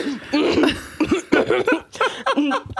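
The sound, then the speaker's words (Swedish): A person imitates a stifled cough, as of someone in a social drinking situation who gets something in their throat and tries to hide the cough: a string of short, muffled, throaty bursts held back in quick uneven succession, with a strained voiced edge and no words. “Det är om någon i då en sån social situation där det dricks får något i halsen och försöker dölja hostan.”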